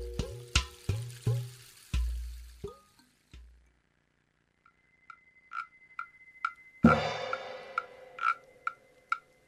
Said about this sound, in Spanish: Hay varios instrumentos de percusión. Escucho una calimba. Palos de lluvia. un tambor de sonido profundo y metálico. ¿Qué elemento estará representando? ¿Ya se dieron cuenta? Es el agua.